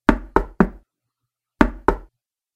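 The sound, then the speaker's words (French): Solid knocks struck by a crippled man on a wooden first-floor door: a quick group of three, a short pause, then two more. No voices, just the knocks against silence. “Ce fut à l'autre que l'estropié frappa six coups ainsi espacés.”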